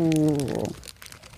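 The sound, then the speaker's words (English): A short vocal hum gives way to a crackly crunch of someone biting into a crisp chocolate-coated taco, with brief scattered crackles trailing off. “We want the crunch.”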